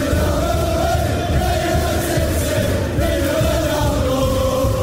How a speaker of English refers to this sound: Oh, we've got what could be the winning goal here at Old Trafford. United are in front. Can you believe what you're seeing, Mickey Gray? Oh, my goodness. Well, again, just listen to that crowd.